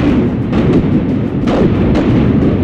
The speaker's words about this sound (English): They are now surrounding and shelling Bohus constantly for 6 weeks. Roughly 20,000 cannonballs, grenades, and stink pots are fired at the fortress.